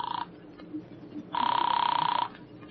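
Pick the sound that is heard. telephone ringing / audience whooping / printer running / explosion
telephone ringing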